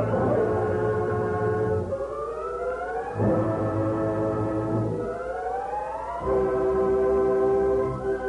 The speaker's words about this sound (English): Hey, Thunder, we all heard that train whistle. Should have reached the bridge just when the fuse set off the powder.